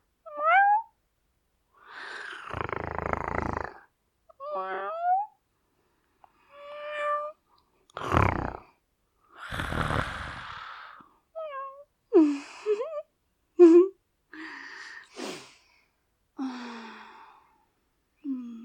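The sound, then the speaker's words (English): A person imitates a cat with a string of soft, high, breathy meows and mews, mixed with sighs and moaning breaths, each short call separated by brief pauses, quiet. “Or, maybe it's my little meows.”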